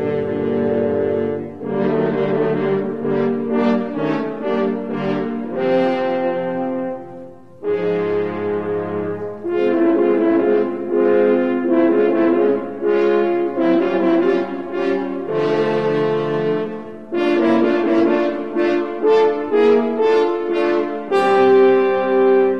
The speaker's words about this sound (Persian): خیلی خب، بذاریم ببینیم همینطوره. مثلا بگین این سه تا فرنچ هورن جای کی هستن؟